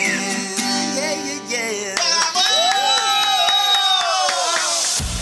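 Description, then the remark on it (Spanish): A loud live concert crowd cheers and shouts continuously for several seconds, with sustained musical tones, rising whistle-like calls and sharp claps mixed into the roar. “Vamos, grito tremendo.”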